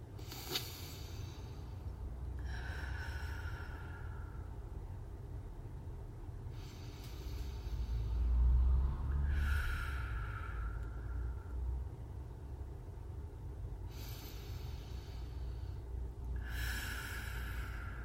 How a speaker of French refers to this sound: Dans cette posture relâchée, notre corps va maintenant pouvoir revenir doucement à l'état de veille. Nous pouvons inspirer 3 fois de façon plus dynamique.